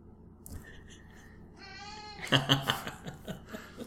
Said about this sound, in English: Oh, hey. Potato, our cat, is joining us for a cameo appearance. Hello, Potato.